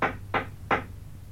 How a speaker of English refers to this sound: There's a light upstairs. That's Mr. Egg's room. Let's knock.